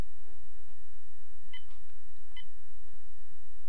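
Telephone keypad tones dial star six: a few short, bright dual-tone beeps in quick succession, heard over a steady low background hum and a faint continuous whine.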